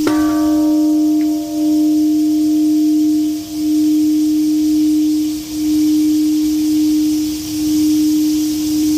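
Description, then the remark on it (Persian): A deep memorial bell in Hiroshima, Japan, is struck once on Thursday to mark the 75th anniversary of the atomic bombing. Its low, steady hum rings on for the whole clip, swelling and dipping every couple of seconds as bright overtones fade early. No one speaks. “زنگ‌ها در شهر هیروشیما ژاپن روز پنجشنبه به مناسبت 75مین سالگرد انفجار اتمی در این شهر به صدا درآمد.”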